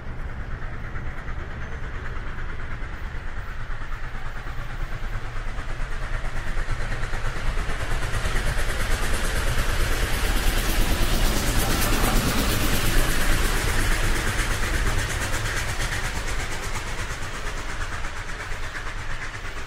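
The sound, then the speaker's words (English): Steady, loud rumble and hiss inside a moving Heathrow Express train heading to Heathrow Airport in London, with a constant low drone and faint rhythmic clatter of wheels on track, swelling slightly midway; no voices. “Well, as you can probably hear from maybe the sounds behind us, is we're now back on the Heathrow Express train heading back to Heathrow Airport.”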